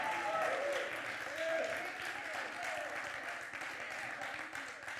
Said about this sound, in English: Well, we'll just go ahead and give the Lord a hand clap of praise today.